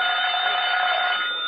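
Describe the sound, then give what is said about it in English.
A telephone rings at 79 Wistful Vista with a loud, continuous metallic bell tone that holds steady and unbroken for the whole moment, with no voices over it. “Oh, that's the phone, Mr.”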